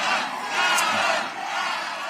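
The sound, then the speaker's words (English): A crowd of protesters at Schiff's election night party, protesting the situation in Gaza, shouts and chants together in a loud, steady roar of many voices, with no single voice standing out. “And I understand that Schiff's election night party was almost taken over by people protesting the situation in Gaza.”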